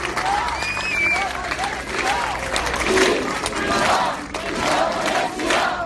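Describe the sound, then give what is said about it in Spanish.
A large crowd outside a polling station at the Ensenyament department building shouts pro-independence chants at 9 p.m. as voting closes. Voices rise and fall in loud, overlapping waves with clapping mixed in, sustained throughout with no clear words standing out. “A las 9 de la noche, cuando ha concluido esta jornada de votación, se han escuchado gritos a favor de la independencia.”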